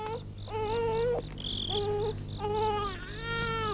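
baby crying from hunger

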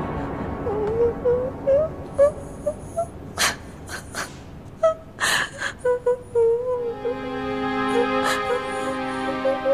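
person crying and sobbing

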